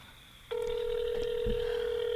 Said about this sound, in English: Okay, so she won't answer the phone, so we have to call her on speaker now.